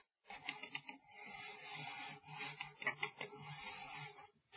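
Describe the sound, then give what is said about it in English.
A computer mouse slides across a desk in a steady scraping rub lasting several seconds, with a few small bumps and ticks along the way and no voices. “Move the mouse.”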